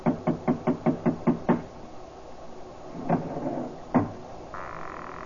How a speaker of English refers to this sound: I lifted the bronze idol and rapped on the door with it, and the voices stopped.